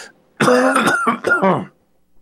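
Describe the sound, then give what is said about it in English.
A person clears their throat and coughs in a quick run of three or four rough, voiced bursts lasting about a second and a half, then quiet. “Just one second, a cough button.”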